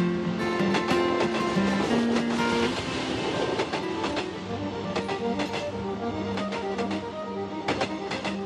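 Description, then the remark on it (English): A train carrying Patrick to Spain in 1922 rumbles steadily along the tracks, its wheels clattering in a repeated clickety-clack rhythm over a constant loud mechanical roar. No voices. “Imagine Patrick's train thoughts on the way to Spain.”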